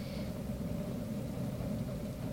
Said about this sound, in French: Ah, ce ronronnement du poêle qui présage enfin une douce chaleur.